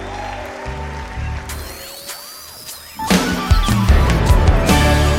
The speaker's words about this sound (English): Clap your hands this way, come on. Put your hands together.